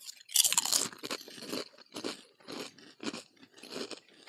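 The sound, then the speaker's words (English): A loud, crisp bite into a crunchy, vinegar-heavy buffalo-flavored snack, followed by steady, rhythmic crunching chews, about six or seven bursts with short pauses between, and no talking. “Tastes like a goddamn chicken wing.”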